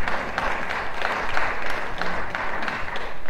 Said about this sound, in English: That's worth applause, actually, I think. That's the Lord.